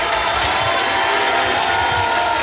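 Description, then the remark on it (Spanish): Loud, sustained applause from the stands in the Salón de Honor as a figure walks in with a partner greeting parliamentarians: a dense, steady wash of many hands clapping at once, holding its level throughout with no distinct voices rising above it. “Cuando se escucha un aplauso importante, ronador, principalmente de las gradas, no tanto así de las autoridades que se encuentran abajo, las representantes políticos, un aplauso mucho más medido, mucho más calmo”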